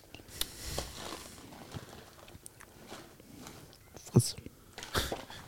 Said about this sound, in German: Hast du die Nüsse gleich schon auf? Denk mal, wir brauchen noch genug zum Kauen gleich. Die sind gleich leer.